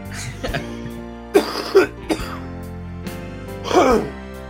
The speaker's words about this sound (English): At least it's a very wet cough.